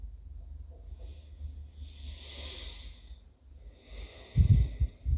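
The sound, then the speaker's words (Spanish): A slow, deep breath drawn in through the nose at the start of a meditation, a soft airy hiss that swells and fades, followed by a second breath, with no talking. “Vamos a comenzar esta meditación con una respiración profunda por la nariz.”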